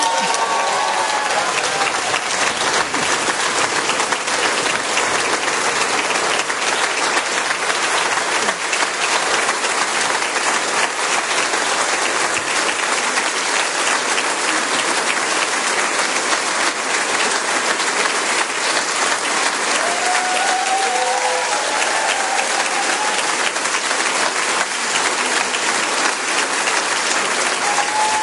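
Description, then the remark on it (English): A large crowd at the Labour Party leadership announcement claps steadily and loudly as Andy Burnham is declared leader and is about to speak, a dense continuous roar of applause with occasional cheers and whoops rising above it. “There's a lot of cheering, and Andy Burnham's about to speak. And some clapping.”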